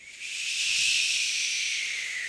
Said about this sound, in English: That's a plane. You'll hear those sound effects in the show as well.